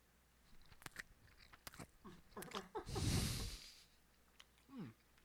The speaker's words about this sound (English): It's wrapped very well. Okay, so in the editing process of this, I'll try to take out any obnoxious chewing noises. But here we go, diving in.